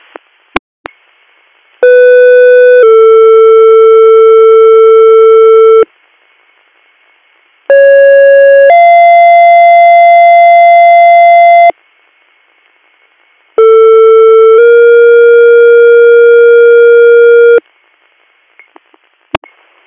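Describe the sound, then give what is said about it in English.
Three loud two-part electronic emergency dispatch alert tones paging EMS to a cardiac call in Tawana Borough, each a short high pitch stepping to a long steady lower pitch, separated by brief pauses, with faint radio clicks at the start and end. “disregard your tones.”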